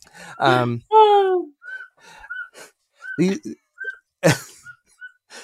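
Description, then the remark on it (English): A baby blows a toy whistle, making short, thin, high toots at an uneven pace, with squealing and babbling vocal sounds between them. “The baby is blowing a whistle.”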